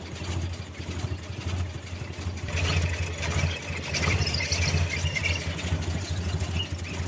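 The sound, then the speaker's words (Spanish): A car engine with a damaged head gasket idles steadily, running very hot after about 10 minutes switched on, its low, even rumble running throughout with a light mechanical clatter layered on top and no voices. “Está muy caliente, ¿observas? Llevo como 10 minutos que la encendí.”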